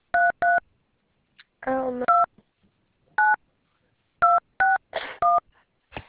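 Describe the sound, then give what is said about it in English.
Telephone keypad DTMF tones as an 8-digit rental car motor vehicle number is entered on a call to Avis Budget Group Emergency Roadside: about eight short, steady two-pitch beeps entered at an uneven pace, with a brief murmur of voice and a burst of rustling noise between some presses. “Please enter your motor vehicle car number.”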